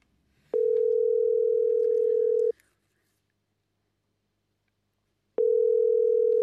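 A steady, loud telephone ringback tone, heard while calling a pet shop, sounds for about two seconds, followed by a pause, then the tone starts again, the classic rhythm of a call waiting to be answered.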